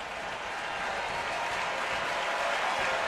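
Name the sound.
baseball stadium crowd noise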